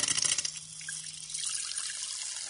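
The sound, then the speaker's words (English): Carbonated water is poured into a glass of red cabbage solution, starting with a brief sputtering burst and settling into a steady, hissing stream of liquid with no talking. “Well, it obviously spluttered a bit to begin with, but the colour difference is really obvious.”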